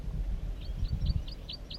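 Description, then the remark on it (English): A wild banded male bird sings a quick series of six high, evenly spaced chirping notes, fairly soft, over a steady low rumble of background noise. “And he escaped or whatever and flew back to the singing wild banded male.”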